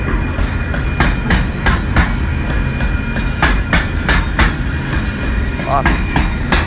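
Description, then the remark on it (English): A train rumbles past on the rails with a steady low roar, rhythmic clickety-clack wheel beats and a faint metallic whine, loud throughout. “Talk out loud, but I don't want to stop the recording until the train is done, so.”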